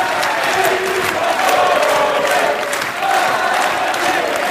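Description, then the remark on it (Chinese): A large crowd of young voters cheers and applauds continuously at a campaign launch rally for a joint electoral list, attended by nearly 3000 people in a city of the 93 département near Paris, as Madame Loiseau begins to speak. A dense, loud roar of many voices with clapping swells and holds steady throughout. “在青年选民们的热烈欢呼声中，卢瓦索夫人开始发言，感谢大家对她的支持。”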